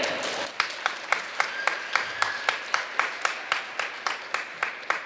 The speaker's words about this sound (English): So a round of applause for our admin at OHS here.